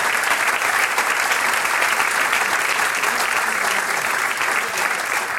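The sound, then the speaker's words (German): Sustained audience applause for the princesses on stage, a dense, steady wash of many hands clapping at an even loudness throughout, with no voices standing out. “Den schönsten Prinzessinnen auf der Bühne einen Applaus, die Knöpferl-Prinzessinnen.”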